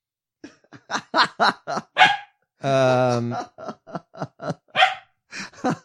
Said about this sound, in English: Dogs.